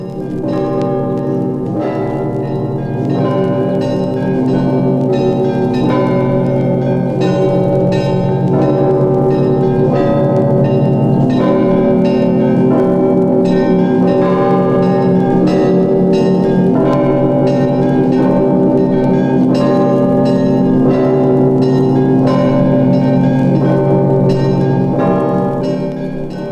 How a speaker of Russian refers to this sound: Значит, как кончит это, значит, снова сигнал подается маленький колокол. Пинь, и следующий такт уже пошли опять.